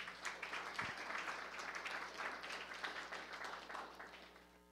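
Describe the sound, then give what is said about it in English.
An audience applauds the Lord at a morning church service, many hands clapping in a dense, steady patter that holds at an even level for the full five seconds without voices on top. “Can you give the Lord a good round of applause this morning?”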